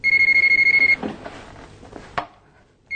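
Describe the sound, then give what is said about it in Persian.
A rapid electronic ring trills steadily for about a second, then cuts off, followed by soft shuffling and a sharp click as if a receiver is picked up. “وای خدای من تلفن خونه رو برم.”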